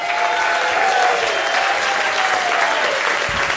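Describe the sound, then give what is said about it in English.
A crowd claps steadily as Mark Yaffe is introduced, a dense, sustained wash of applause that holds at a fairly loud, even level throughout, with faint cheering tones running underneath. “Please give it up for Mark Yaffe.”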